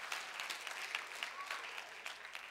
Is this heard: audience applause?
yes